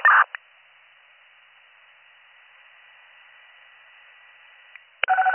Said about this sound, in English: Now the phones are all going off.